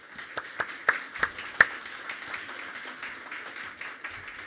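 An audience applauds the fathers present on Father's Day: a few sharp, scattered claps ring out at first, then fade into a soft, steady patter of crowd applause that stays fairly quiet throughout.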